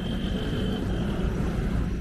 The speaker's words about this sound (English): Lahore was known as the City of Gardens. Now the soundtrack to its streets is traffic noise, not birdsong.